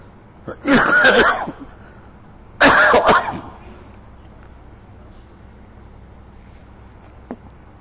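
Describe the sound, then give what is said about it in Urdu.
Two loud bouts of harsh coughing by a speaker during a talk in Karachi, each a cluster of rough hacks, separated by a brief pause and followed by several seconds of quiet room tone. “جب کراچی میں اس طرح بیانات ہوتے ہیں تو کبھی کھانسی اور شروع ہو جاتی ہے, بابا سے شیخ سے دعا کا کہتا ہوں, پھر دوستوں سے دعا کا کہتا ہوں, اور بہو بیٹیاں جو آئی ہوئی ان سے دعا کا کہتا ہوں, اللہ فوراً اچھا کر دے.”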